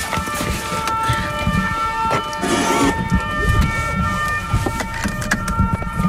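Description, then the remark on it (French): A two-tone ping-pong alarm signal at the CEA Valduc centre near Dijon, France, sounds steadily throughout, its bright electronic tones repeating over a low rumbling background with occasional clunks and movement noise. “C'est ça que vous avez entendu, le ping-pong que vous avez entendu tout de suite.”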